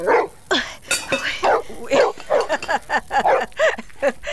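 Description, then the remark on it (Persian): A dog at a tent pitched at the foot of a mountain barks over and over in a rapid, loud series of sharp yaps and woofs, with barely a pause between calls. “این سگ پالوی خیمه ما چرا غوغو میکنه؟”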